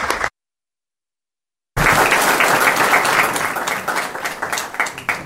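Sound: round of applause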